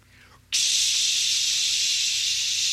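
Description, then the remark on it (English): An aerosol air freshener sprays in one long, steady burst, a loud bright hiss that starts abruptly after a brief quiet moment and continues without a break to the end. “Or we try to spray the world's air freshener.”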